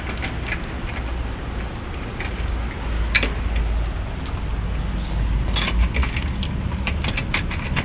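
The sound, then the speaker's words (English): A key jiggles and scrapes in a stubborn door lock in a few short metallic bursts as someone tries to unlock the door, over a steady hiss of rain that is picking up. No one speaks. “And of course now the key doesn't want to work in the door.”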